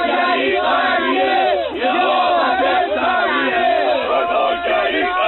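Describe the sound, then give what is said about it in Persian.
A large crowd of supporters of population increase, gathered in the city and defending the government's policies, chants and shouts together in loud, continuous waves of overlapping voices, with rising and falling cheers and no pauses across the whole stretch. “همکار گرامی، یه سری از طرفداران افزایش جمعیت اینجا جمع شدن و دارن از سیاست های نظام دفاع میکنن.”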